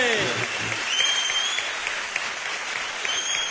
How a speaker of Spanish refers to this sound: ¡Un aplauso ahí, los Jackson!